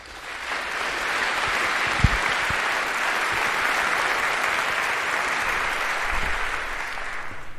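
A large audience applauds steadily for several seconds, a dense, even wash of many hands clapping at constant loudness with no voices standing out, welcoming a speaker for a talk on the history of iOS jailbreaking.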